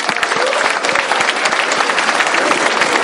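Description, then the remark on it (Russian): Loud, dense applause from an audience, a steady wash of many hands clapping at once with no pauses, sustained throughout and with no voices standing out. “Аплодисменты. Просто без повода.”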